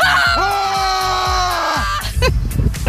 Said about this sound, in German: aber danach lautes Geschrei gegen den Stress